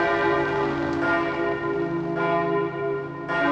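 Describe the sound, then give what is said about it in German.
Five large cast steel church bells, installed in the church in the 1950s, ring together in a loud, continuous peal, their deep overlapping tones sustaining with periodic fresh strikes, with no voices present. “Wir haben 5 Glocken, das sind Stahlgussglocken, die aber ein sehr prächtiges und lautes Geläut abgeben.”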